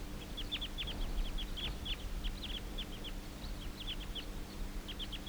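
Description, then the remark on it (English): A flock of about eight wild birds, having just taken off and now circling, calls steadily, many short, high chirps overlapping in quick irregular bursts above a low, steady rumble of background noise. “And now the whole flock took off.”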